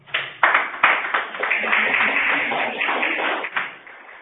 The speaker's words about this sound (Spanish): Bueno, pues muchas gracias, la charla ha sido muy interesante y le damos un gran aplauso.